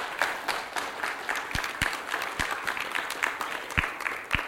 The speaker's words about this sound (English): And I would recommend that we give you a round of applause. No, please don't.